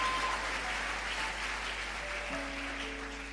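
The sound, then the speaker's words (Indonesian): A crowd claps steadily in a dense, sustained wash of applause that tapers slightly at the end, while a few soft sustained keyboard notes enter underneath. The applause comes during a Christian sermon, after the preacher asks the audience to clap. “Saudaraku, tepuk tangan padaku.”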